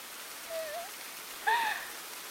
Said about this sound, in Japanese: 雨がいっぱいいっぱい入ってきた。